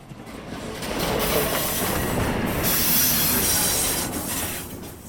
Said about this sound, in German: Vom Rangierbahnhof Limmental kommt der Zug mit 30 Wagen von Basel an.